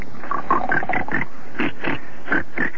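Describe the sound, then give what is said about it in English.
A dog called Barky snoring in rough, snorting grunts, a quick run of short raspy bursts, a brief pause, then another series, fairly loud and steady with no talking. “Barky, snore right now. Cut that out.”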